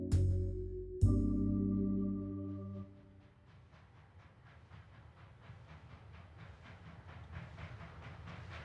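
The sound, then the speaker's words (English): A train horn blasts twice at the start, then the rhythmic clatter of wheels on rails builds steadily louder as the train draws nearer. No voices. “He sees the light of a train approaching. The train is getting closer, but he can't move.”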